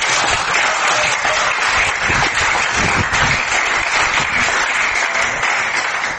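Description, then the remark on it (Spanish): A steady burst of audience applause for the hotel firm Robinson: dense, loud clapping from many hands holding an even level for several seconds, with no one speaking over it. “Un aplauso, ¿no?”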